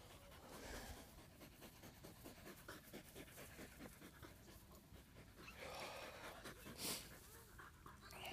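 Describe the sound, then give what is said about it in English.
A dog pants steadily outdoors on wet grass under a blue sky, quick rhythmic breaths repeating throughout, with a louder huff near the end against a faint outdoor background. “I think this moment would be very nearly perfect if it weren't for a panting dog.”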